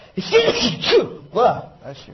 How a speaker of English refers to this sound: I like American cars. I don't know why I'm sneezing at the mention of it. Apologize for that.